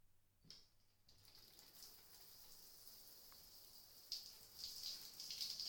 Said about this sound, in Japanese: シャワーのお湯の温度を調節しますから、おっぱい触っててくださいね。